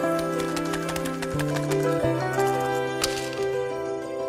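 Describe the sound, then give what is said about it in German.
Dice clatter and rattle in a quick series of sharp clicks as they are rolled in a wagered game, landing on two fives and two sixes, mixed in with sustained instrumental music playing steadily in the background; no one speaks. “Deine Wunderkindgeige gegen meinen Siegelring, her mit den Würfeln.”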